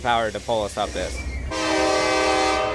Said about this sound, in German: Wir werden von einer SD-Mac-Lokomotive gezogen mit 4.300 PS. Und hinten schiebt eine zweite Lok mit 3.000 PS. Man braucht schon ein bisschen Kraft, um uns hier hochzubringen.